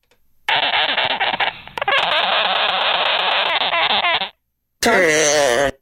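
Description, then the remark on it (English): A sugar glider vocalizes in a loud, continuous buzzing chatter, a harsh rasping sound held for nearly four seconds, then a short pause and a brief burst of higher, wavering squeaks. “What was that? Sugar glider.”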